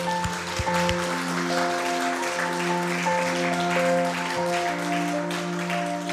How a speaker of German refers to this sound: Komm, lasst uns ihm mal einen Applaus geben.